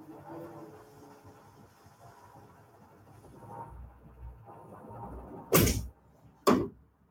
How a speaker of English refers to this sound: can I check out and go close the door real quick?